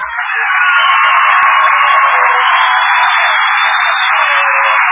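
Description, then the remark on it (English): A crowd applauds guest star Mr. Danny Kay on a show, a loud, dense wash of clapping that holds at an even level for the whole stretch, thin and band-limited like an old broadcast recording, with no voices over it. “did you notice that Mr. Danny Kay got more applause than Danny Kay?”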